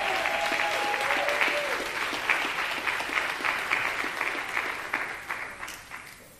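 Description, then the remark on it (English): An audience claps hands in praise for its young people, a dense, steady wash of many hands that holds strong before gradually thinning and fading toward the end, with a brief sustained tone early on. “So one more time, let's give our young people a hand clap of praise.”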